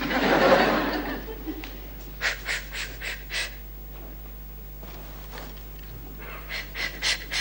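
A loud, breathy cleansing exhale opens, then quick rhythmic Lamaze panting comes in two short bursts of four or five huffs each, fairly soft, from a woman in labor.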